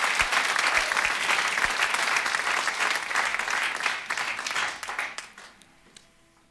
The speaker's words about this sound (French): Mesdames et messieurs, on prend ces 2 petites mains et on les applaudit bien fort pour les encourager parce qu'il leur en faut ce soir.